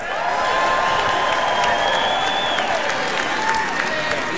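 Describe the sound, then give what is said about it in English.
A large crowd on the floor of the Republican National Convention applauds and cheers without pause at Donald Trump's choice of J.D. Vance for vice president, a dense, steady wash of clapping and voices with shrill whistles and sliding whoops rising above it. “The crowd on the floor at the convention appeared happy with Donald Trump's choice for vice president.”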